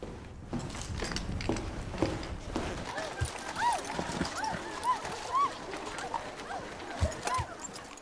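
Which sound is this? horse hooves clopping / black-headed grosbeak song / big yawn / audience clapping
horse hooves clopping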